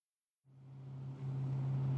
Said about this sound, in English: This is pretty convenient to have this bus that goes around the island. I agree. It's very convenient. Earlier this year, we were on a bus going around Roosevelt Island.